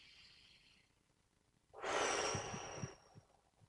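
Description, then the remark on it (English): A deep breath: a soft, airy inhale followed by a long, loud whooshing exhale, with no talking. “Let's do three deep breaths. Just pay attention to your breathing.”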